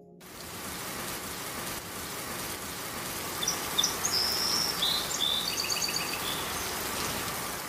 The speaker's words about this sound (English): It's raining.